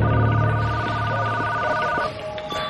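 Jack Bauer's telephone rings in a scene with a steady, high electronic tone that holds for about two seconds over a low background hum, then cuts off and leaves a fainter tail.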